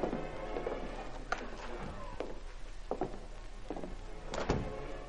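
An unlocked door at the top of a stairway is opened stealthily with a few sharp clicks and knocks, followed by a faint creak and a final louder clunk, against a steady low background hum.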